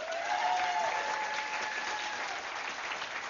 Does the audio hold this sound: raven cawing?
no